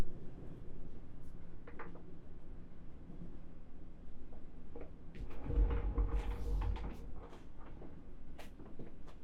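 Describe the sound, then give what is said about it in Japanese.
A salon chair swivels and tilts back for a shampoo, a low mechanical rumble and creak swelling for a couple of seconds midway over a steady background hum, with no one talking. “そちらでシャンプーをするので椅子を回転させて後ろに倒しますね。”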